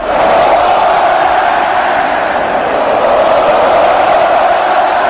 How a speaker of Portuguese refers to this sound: A torcida comemorou mesmo antes do apito final do juiz. O Brasil já vencia por 2 a 0 quando os gritos de olé tomaram conta do Mineirão.